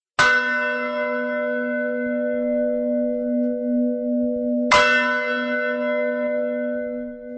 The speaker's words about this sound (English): Sounds of bells echo across the town of Sázava from the lofty Gothic bell tower. For almost 1,000 years, the bells have been a source of local pride.